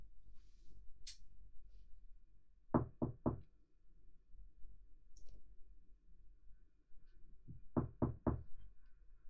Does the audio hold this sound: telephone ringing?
no